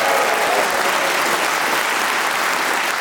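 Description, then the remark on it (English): The studio audience of the show Just a Minute applauds and cheers steadily for the four panelists, Paul Merton, Pippa Evans, Susie Ruffle and Tony Hawks. The dense clapping holds a loud, constant level for a few seconds with no talking over it. “Please whoop and cheer for all of them.”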